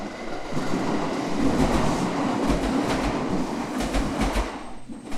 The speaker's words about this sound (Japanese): え、あ、電車？